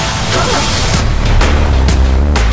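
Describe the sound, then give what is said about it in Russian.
A car engine runs steadily with a loud low rumble that rises and falls through several revs, and a few short bursts of noise break through the drone. “Моторы.”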